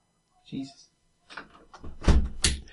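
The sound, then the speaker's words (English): A window slides shut with scraping, rumbling movement, ending in two loud, heavy thuds a moment apart. A few quieter knocks and rattles come first. “I'm going to close the window because we can hear infinite dogs.”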